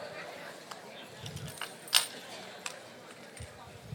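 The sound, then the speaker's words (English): Keys jangle and clink as they are taken out and handled, with scattered metallic chinks and one sharper, brighter rattle midway, over a soft background of muffled movement. “I'm sure you've got a phone, wallet, and keys, right?”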